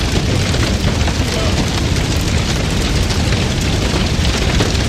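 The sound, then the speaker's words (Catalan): A steady, dense roar of a fire burning down a house made of wood and straw, with continuous crackling and low rumbling bursts that stay loud throughout. “S'ha declarat un incendi i com que allà tot és fusta i palla, en un tres i no res, la feina del nostre amic queda reduïda a cendres.”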